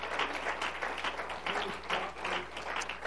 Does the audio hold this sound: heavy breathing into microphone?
no